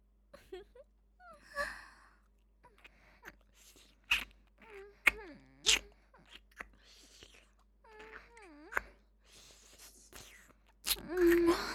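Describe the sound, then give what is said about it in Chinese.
A young man's breathy exhalations and sighs repeat irregularly, mixed with soft voiced moans and gasps, growing louder toward the end with no clear words. “不说话，老娘也能让公子浓重的喘息声中听出公子的羞愤交加的心情。”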